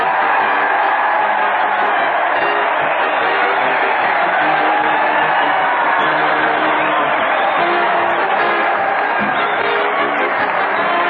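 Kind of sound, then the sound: crowd, crowd cheering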